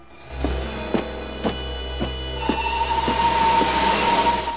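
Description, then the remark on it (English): A steam locomotive pulling into a station at night chuffs in steady, evenly spaced puffs over a deep rumble, then a loud rushing hiss of escaping steam swells up with a thin squeal as it slows. “A steam train pulls into a station at night.”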